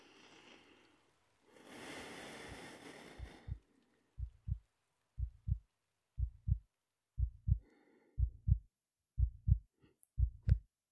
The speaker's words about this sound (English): Listen to my heartbeat. Your own heart is beating the same way, giving you life and strength every moment. Even if you might not feel that right now, just feel mine.